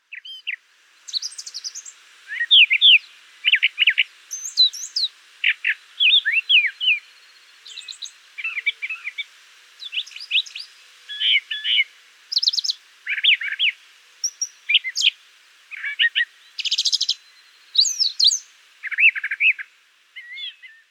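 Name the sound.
brown thrasher song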